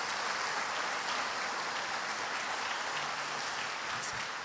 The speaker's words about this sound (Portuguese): Eu quero que você aplauda Jesus pela presença deles aqui.